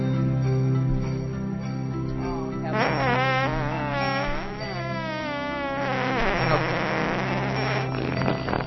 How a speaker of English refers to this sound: A toy piano that plays the notes as farts for Christmas. We have a Christmas fart song.